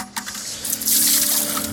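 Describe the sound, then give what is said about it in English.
Water gurgles and rushes up through a hole in the ice, a broad splashing hiss that swells after a few light knocks and then flows steadily with a faint low hum underneath. “It is precious as gold out here because I'm going to have the next 300 days without running liquid water.”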